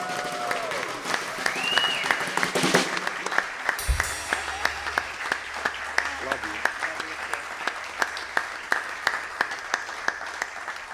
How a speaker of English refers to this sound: Thank you for the round of applause.